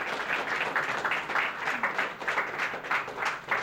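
An audience applauds steadily, many hands clapping together into a dense, crackling wash that holds at an even, moderate loudness for several seconds without any voices.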